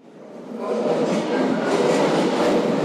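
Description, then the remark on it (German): A subway train rumbles into the underground Osloer Straße U-Bahn station in Berlin's Wedding district, its broad roar swelling over the first second and then holding steady and loud, with faint rhythmic rattling of the cars and no voices. “Ein Rollstuhlfahrer dämmert auf dem U-Bahnhof Osloer Straße vor sich hin.”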